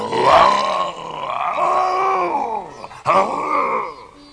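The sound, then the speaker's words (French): A voice imitates a tiger's roar: two loud, drawn-out growling bellows, sustained, with a brief catch of breath between them. “Dès que le tigre le vit venir, il surgit d'un taillis et rugit plus fort que jamais.”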